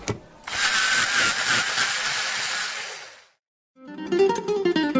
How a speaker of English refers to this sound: Pero no tiene punta. Pues usa el sacapuntas.